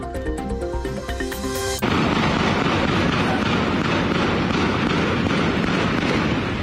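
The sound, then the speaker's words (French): A short musical tone gives way to a loud, relentless barrage of overlapping gunshots, crackling and popping without pause as if several weapons fire at once: an uninterrupted exchange of gunfire in the centre of Port-au-Prince, Haiti, amid gang fighting. “Images glaçantes d'échanges de coups de feu ininterrompus hier dans le centre de Port-au-Prince.”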